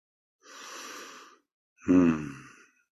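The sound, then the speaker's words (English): A single yawn, said to come from energy releasing through the body rather than fatigue: a long breathy inhale, a short pause, then a voiced, drawn-out exhale that sinks in pitch and trails off. No one speaks. “By the way, my yawns are not from fatigue.”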